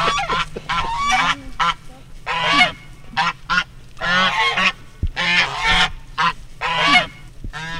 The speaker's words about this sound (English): So this is Maverick and Buckles. They are African geese.